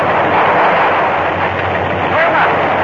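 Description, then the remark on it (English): A loud, continuous rumble of thunder from a storm coming up amid worsening fog rolls on without a break, a dense roar with a steady low drone beneath it and no clear individual cracks. “There's a storm coming up, and the fog is getting worse.”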